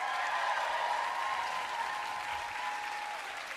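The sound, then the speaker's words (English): Steady audience applause for Professor Ian Haney Lopez, a UC Berkeley law professor, as he is introduced on a panel. It is a dense wash of many hands clapping at an even level that fades slightly toward the end. No one speaks over it. “Give it up for Professor Ian Haney Lopez, everybody.”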